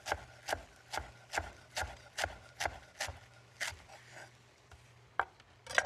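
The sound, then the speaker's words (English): A knife chops through fresh mint and parsley on a board in a steady, even rhythm of about two crisp strikes per second, slowing into a few scattered cuts at the end; no one speaks. “So we're just going to chop up the mint and the parsley.”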